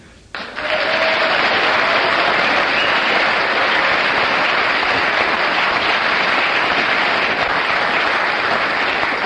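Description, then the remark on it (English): A game show audience breaks into loud, steady applause after a brief quiet start, the dense clapping holding at an even level for about nine seconds without easing off; the applause is scored 9. “Well, you get 9 for your applause, and there were one or two gnaws there from you”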